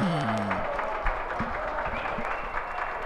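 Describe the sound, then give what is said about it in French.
A concert crowd at Parc Jarry cheering and clapping at the start of a live recording, in a steady, dense roar, with a few loud shouts rising above it at the start and scattered claps throughout. “Ça commence par une foule.”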